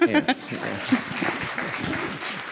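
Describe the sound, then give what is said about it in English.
A crowd claps in a dense, steady wash of applause that fills the moment, with a few brief vocal sounds poking through near the start. “You may applaud.”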